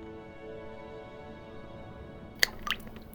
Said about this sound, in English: You hold them up one at a time. You close your eyes and then, well, essentially, make a wish. Then you drop it into the sea.